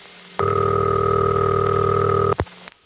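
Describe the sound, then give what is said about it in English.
A loud, steady Western Electric "city ring" telephone ring tone holds for about two seconds, then cuts off abruptly, followed by brief crackling static and a quiet click. No voices. “The following ring is called City Ring.”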